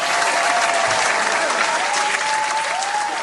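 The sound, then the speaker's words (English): A dense, steady wash of crowd applause sound effect played from a hotkey, many hands clapping loudly for a few seconds, with faint cheers and whistles rising over the noise. “Could you give me, like, one of those claps? Give me a clap for game.”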